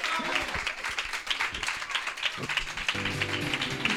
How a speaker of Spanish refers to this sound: E se queredes darnos un aplauso agora, sí... ¡Aplauso covídico! ¡Eso sanitario!